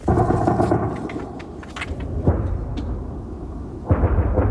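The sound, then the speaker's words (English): Air defense fire shooting down drones over Kyiv at night, recorded on a phone held out of a window: a heavy, continuous low rumble broken by sharp crackling bursts and booms, with louder blasts around the middle and near the end. No one speaks. “So you can hear the air defense shooting down drones.”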